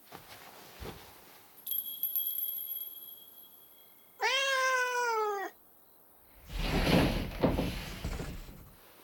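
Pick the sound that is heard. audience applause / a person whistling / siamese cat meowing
siamese cat meowing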